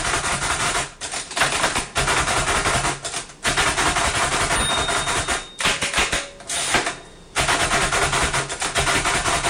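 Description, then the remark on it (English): Rapid mechanical clacking of a Perkins Braille writer typing Braille, keys struck in quick dense bursts with brief pauses between runs, loud with no voices. “It kind of sounds like a typewriter, but that is a Perkins Braille writer.”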